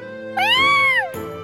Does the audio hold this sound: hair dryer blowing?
no